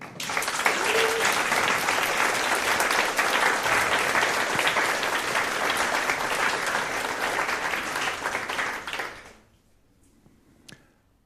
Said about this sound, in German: Zeigt euch, dieser Applaus ist für euch.